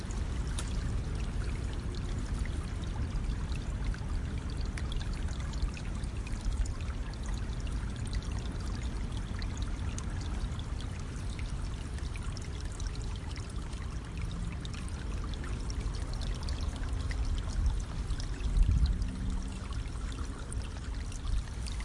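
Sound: flowing river water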